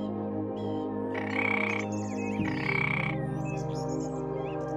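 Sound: frog croaking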